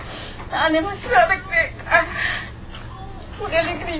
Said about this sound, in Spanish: Estoy llorando porque estoy pensando en mis hijos. Porque tengo dos hijos criminalizados, tienen hijos.